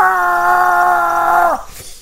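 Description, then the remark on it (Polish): A voice imitates a pained cry of someone who has just hit a finger with a hammer, somewhere behind a wall in an apartment block: one loud, sustained wailing note held steady for about a second and a half, then sliding down and cutting off. “Rozumiesz, to jest człowiek, który walnął się w palec. Gdzieś za ścianą, w bloku na przykład.”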